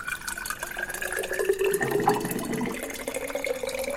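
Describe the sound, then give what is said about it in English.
Water streams steadily from a drinking fountain, called a bubbler, into a container, a continuous splashing gurgle whose tone shifts as it fills, with no voices over it. “I need some more water. Get this bubbler going.”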